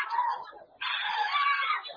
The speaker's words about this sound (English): Bring for me the lady that shouts loud now under the anointing to the hearing of everybody. The power of God is coming on a lady in a congregation. It's a loud shout to the hearing of everybody.